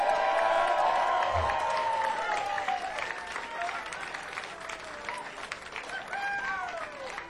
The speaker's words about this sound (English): Thank you so much. Please, a warm round of applause